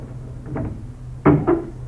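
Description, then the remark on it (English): A front door's latch and lock rattle softly, then two sharp clunks follow in quick succession as the door is unlocked and pulled open, with no voices present. “now the front door is unlocking.”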